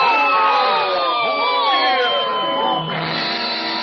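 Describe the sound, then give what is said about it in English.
A group of voices loudly yells and boos together in a sustained, overlapping, energetic chorus with wavering pitches like a rowdy crowd jeering, booing at a man who is climbing, to make him fall. “We'll all yell boo at him.”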